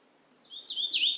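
hooded warbler song

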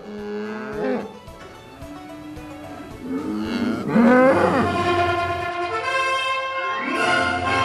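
cattle mooing

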